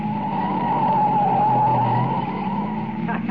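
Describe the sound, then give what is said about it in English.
The tires of a light car squeal steadily as it takes a sharp right turn and almost goes over, a sustained high screech over a low engine rumble. The sound is loud and ends with a brief clunk near the end. “Baby, look at her take that right turn, huh? She almost went over. That's a light car she's got.”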